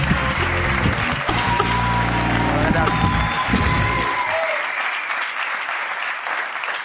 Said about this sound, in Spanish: Vale, pues un aplauso para Jorge Ponce, que va a hacer una performance.